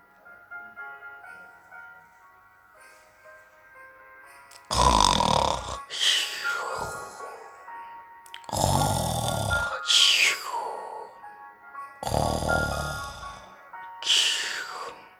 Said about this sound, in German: schnarcht schon wieder